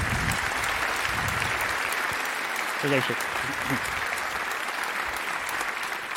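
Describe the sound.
Steady applause from an audience welcoming two speakers to a talk, a dense, even crackle of many hands clapping that holds for the whole stretch, with a brief spoken word from a man partway through.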